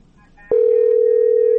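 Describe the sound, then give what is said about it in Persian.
A telephone line rings during a broadcast call-in program with a loud, steady electronic tone that starts abruptly after a brief quiet murmur and holds unbroken to the end. “بله تلفن زنگ زده رئیستن.”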